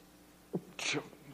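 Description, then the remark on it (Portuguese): A single sharp sneeze, fairly loud: a short intake followed by a bright, hissy burst. It sounds like a person performing the sneeze, and nothing else is heard around it. “E um espírito espirrador.”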